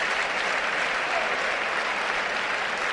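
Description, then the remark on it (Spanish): Steady, dense applause from the stands of a football stadium as Son Weissman comes out to warm up, a continuous wash of clapping at even loudness for the whole span, with no pauses and no distinct voices standing out. “Y por cierto, aplaudí a la grada porque ha salido a calentar Son Weissman para darle cariño.”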